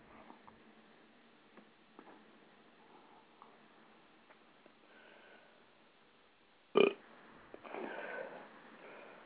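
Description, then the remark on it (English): A single short, loud burp bursts out after several quiet seconds of faint clicks, followed by a breathy, rustling exhale. No one talks. “Man, why does my burp sound fucking normal, but my voice don't?”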